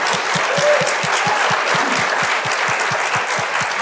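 A crowd applauds steadily, dense clapping filling the whole stretch at an even loudness, with a faint low rhythmic thump pulsing underneath at a regular beat.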